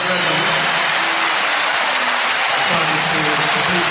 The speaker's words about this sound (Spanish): Pero los 65.000 espectadores de Montjuic le animan, le aplauden.